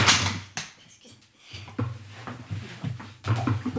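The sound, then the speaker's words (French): A woman tumbles off her chair while reaching for a CD sleeve, with a sudden loud crash followed by a series of scattered bumps, scrapes and thuds as furniture knocks and settles. “Je suis tombée en bas de ma chaise.”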